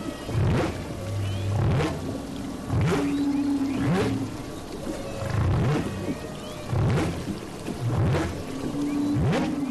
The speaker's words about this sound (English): Oh, I don't think there's any question that the most unique thing about humpback whales is their song.